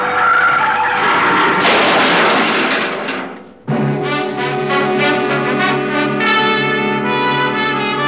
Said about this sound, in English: We were near the toll gate. I took my foot off the accelerator and then jammed down on the brakes as hard as I could.